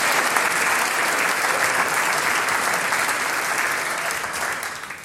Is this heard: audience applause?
yes